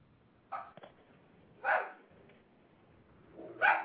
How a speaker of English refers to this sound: I hear the dog.